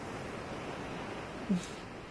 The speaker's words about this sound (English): Oh, the water lapping around your cock? Is that getting you excited?